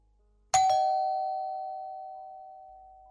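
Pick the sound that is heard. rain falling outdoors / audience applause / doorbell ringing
doorbell ringing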